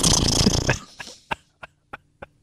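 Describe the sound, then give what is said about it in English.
A voice imitates a sick beaver coughing: a long, raspy, snorting wheeze, then five short, sharp hacking bursts spaced about a third of a second apart, fading slightly. “You ever hear what a sick beaver sounds like when it coughs?”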